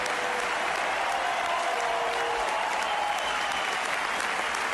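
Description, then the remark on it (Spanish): A large crowd at the Martínez Valero stadium gives a sustained ovation as Saúl, number 8, is substituted, dense clapping and cheering steady and loud throughout, with a faint murmur of voices woven into the roar. “Porque para nosotros, ya te digo, la ovación que le dieron ahí en su ciudad, yo creo que, ya te digo, es una cosa que no va a olvidar en tu vida.”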